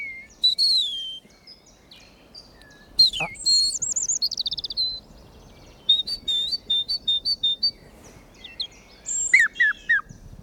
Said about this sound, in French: Un rouge-gorge.